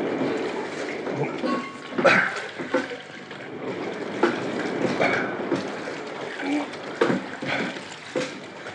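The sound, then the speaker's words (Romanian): Rough sea waves surge and crash in a continuous roar, with louder heavy breakers hitting every second or two against a constant wash of churning water. “Mare furioasă rău. Nu vezi cum se ridică valurile și le izbesc?”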